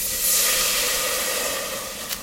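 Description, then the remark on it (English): Rice wine vinegar poured into a hot pan hits with a loud, steady sizzle, a broad bright hiss that holds for about two seconds and eases slightly, with a brief sharp crackle near the end. “And we're going to pour some vinegar. Watch out.”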